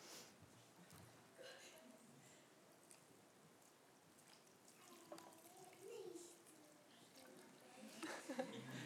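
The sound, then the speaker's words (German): Water is poured in from the side, rising like a flood, splashing steadily for several seconds, a continuous rushing trickle at moderate volume, with faint children's voices chattering in the background. “Gut, dann schauen wir mal, wenn Wasser von der Seite kommt, was dann passiert. So eine Flut, die jetzt da so hochsteigt.”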